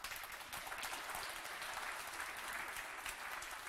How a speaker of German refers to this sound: Einen großen Applaus bitte für Alex Goldberg.